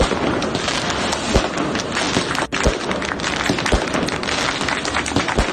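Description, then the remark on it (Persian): Sharp firecracker bangs pop out every second or so over a thick, roaring wash of outdoor crowd noise, set off by supporters of former Iranian president Mahmoud Ahmadinejad at his 64th birthday celebration in 72 Square, Narmak, Tehran. “این مراسم تا جایی پیش رفت که طرفداران احمدی نژاد برای وی توپ و ترقه هم در کردند و در پایان هم وی برای جمع سخنرانی کرد.”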